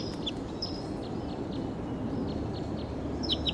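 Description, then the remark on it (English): A wild bird calls loudly in the distance, a series of short, high chirps repeating every half second or so over a steady rumble of outdoor background noise, recorded with the microphone pointed toward the bird. “Wild bird calling loud in the distance, pointed in the direction of the wild bird.”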